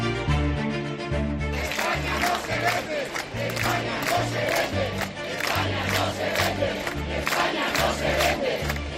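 A large crowd at a Partido Popular rally in Valencia, Spain, chants the slogan "España no se vende" in loud, rhythmic unison. Voices rise and fall in repeated bursts with a pounding beat underneath and no pauses.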